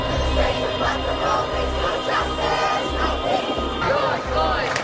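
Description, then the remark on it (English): A large crowd protesting the death of George Floyd shouts and chants in a steady rhythm, a dense wall of voices with regular low thumps pulsing underneath, loud and continuous throughout. “Following it are many posts of the protests in response to the death of George Floyd.”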